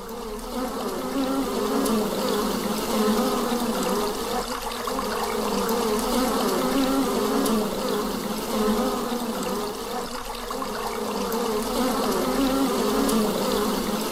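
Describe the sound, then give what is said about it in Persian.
A dense, steady drone of many honeybees buzzing around their hives at a honey-producing beekeeping operation in the Sangvar region, continuous and fairly loud throughout, with no voices present. “در گزارش برنامه پرورش عسل در منطقه سنگوار و صحبت متخصص را می شنوید.”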